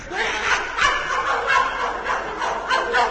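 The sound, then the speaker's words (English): A person imitates a puppy dog barking, giving a quick run of yappy, throaty barks with a slightly laughing, clucking quality. The voice is steady, with no other talking. “Who ever heard of a rooster barking?”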